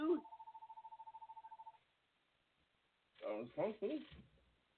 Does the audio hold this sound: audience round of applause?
no